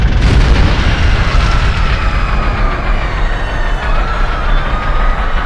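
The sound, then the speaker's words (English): A loud explosion at one of a great ship's four anti-grav fans bursts with a deep boom, then trails into a long, heavy rumbling roar that holds steady for several seconds. No voices. “There's been an explosion.”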